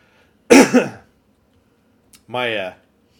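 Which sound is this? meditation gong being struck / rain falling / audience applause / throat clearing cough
throat clearing cough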